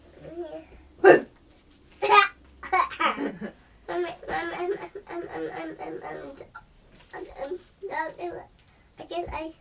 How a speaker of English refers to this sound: I think I still got the hiccups. You have still got the hiccups, haven't you? Shall I make you jump? Oh no, you still got them, haven't you?